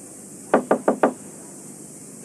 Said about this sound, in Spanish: Llega ante una puerta y llama.